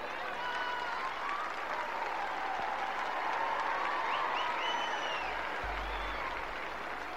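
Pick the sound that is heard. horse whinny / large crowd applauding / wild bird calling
large crowd applauding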